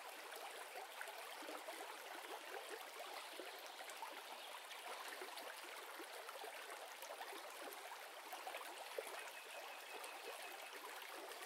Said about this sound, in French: Pendant quelques instants, vous décidez de simplement vous laisser bercer par le doux son de l'eau qui serpente entre les pierres et suit son cours